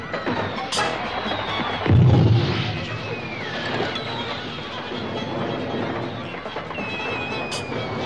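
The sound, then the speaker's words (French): Fireworks, rockets set off inside a salon on a boat: one heavy, deep boom early on, with whistling rockets and sharp pops and crackles running through a dense, noisy rumble that continues steadily to the end. “Ce fut un extraordinaire feu d'artifice.”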